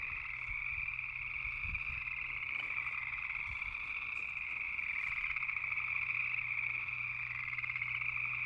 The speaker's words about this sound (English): It sounds like it's coming from the trees, and crickets don't live in trees. Gut says this is... No, those are frogs. My favorite animal. Jeez Louise, it's loud.